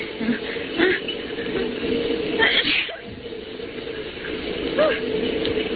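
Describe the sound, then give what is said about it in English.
A double-decker bus rumbles steadily through city traffic, its engine drone and road noise constant and fairly loud, with brief indistinct voices and a sudden sharp vocal burst breaking through. “And this is the first time I ever rode on a double-decker bus.”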